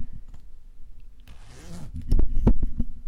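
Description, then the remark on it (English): A jumper zip is pulled down in one quick rasping stroke, followed by a few soft rustles and thumps of fabric as the garment shifts. “I just had to take the zip down of my jumper.”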